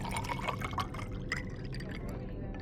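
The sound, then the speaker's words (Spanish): Still, non-sparkling water pours steadily into a glass, a continuous splashing gurgle that runs for a couple of seconds at moderate volume, with faint background murmur underneath. “O sí, un agua, por favor. ¿Con o sin gas?”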